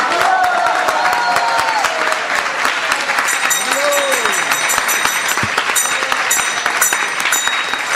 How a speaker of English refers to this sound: So we'd like to give a call out to our friends from Google who are here volunteering. We're so honored and appreciative. Please let's give them a big round of applause.